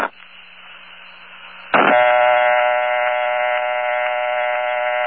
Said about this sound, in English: The old step-by-step and crossbar dial tone sounded something like this.